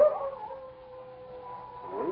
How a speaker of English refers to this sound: Jules, is that a dog howling?